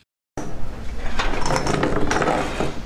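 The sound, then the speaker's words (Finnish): After a brief silence, chairs and tables clatter continuously as furniture is set out at a beach cafe in Valencia, Spain, in positions meeting coronavirus rules, with a metal tape measure in use: a busy jumble of knocks, bangs and scrapes with sharp metallic clicks over a steady bed of noise, staying fairly loud throughout. “Tuolit ja pöydät kolisevat, kun valensialaisessa rantakahvilassa otetaan kalustoa esiin koronamääräysten mukaiseen asentoon.”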